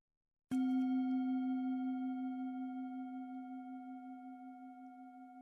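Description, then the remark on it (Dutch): A single meditation bell is struck once, giving a sharp onset and then a long, steady, low ringing tone with faint higher overtones and a gentle wavering pulse as it slowly fades. “Als je de bel hoort, dan begint de meditatie.”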